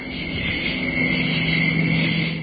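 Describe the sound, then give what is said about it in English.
A steady, even roar of a jet plane flying overhead, with a low droning hum and a constant high chirring of insects, some of them crickets, layered on top; recorded outdoors on the grounds of a state university; no voices. “No, that was a jet plane that's flying overhead.”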